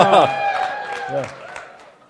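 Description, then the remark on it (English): An audience cheers with sustained whoops and shouts over scattered clapping as a man runs up to come forward, loud at first and tapering off over about two seconds. “As he runs up, cheer for him.”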